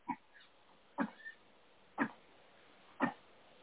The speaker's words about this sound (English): Oh, I don't know what that was. Sneezing or coughing? No, coughing. Oh, coughing. I couldn't tell if you were sneezing or coughing. Well, I was trying to be quiet.